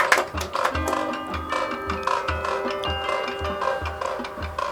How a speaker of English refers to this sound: Almost dissipating, the clock fading out.